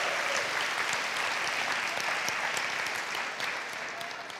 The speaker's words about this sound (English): Say, be strong and not weak. Give yourself a hand clap for that. That was powerful.